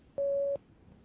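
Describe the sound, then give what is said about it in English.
A single steady electronic beep at a mid pitch, lasting under half a second, sounds clearly against faint background hiss with no voices; it is the cue tone on a German language-lesson tape telling the listener to speak. “Speak when you hear the beep.”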